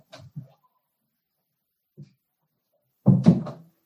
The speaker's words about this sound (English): One moment, my door's open. I got to close it real fast because I can hear the kids coming. Noise coming in.